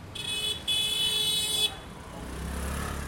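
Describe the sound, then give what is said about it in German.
Busy street traffic in Delhi with a car horn honking twice, a short blast and then a longer one, over a steady rumble of engines that swells as vehicles pass by. “Und jeden Tag werden auf Delhis Straßen 1000 neue Autos angemeldet.”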